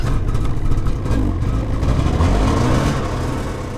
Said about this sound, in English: George and Mahoney are leading a group of science students on a snow machine trip out onto the Chukchi Sea.